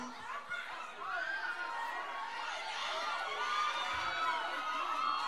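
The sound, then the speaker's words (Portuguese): A large crowd cheers and chatters at once, a dense wash of overlapping voices, shouts and laughter that stays loud and steady throughout, with no single speaker standing out. “Eu vou aproveitar essa multidão de gente e quero mostrar pelo menos umas músicas do volume 15.”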